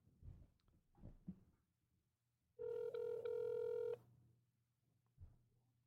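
An outgoing phone call, dialed with Star 67 to block caller ID, rings: one loud, steady, mid-pitched ringback tone lasts about a second and a half, with soft rustling and handling noise before and after it.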